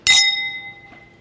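glasses clinking

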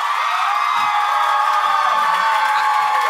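audience applause and cheering

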